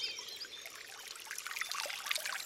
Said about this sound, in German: Ja, und jetzt passend zur Sommerhitze haben wir einen schönen Wassersound. Ihr hört da den Kienbach in Bayern, da, wo er aus der Quelle kommt.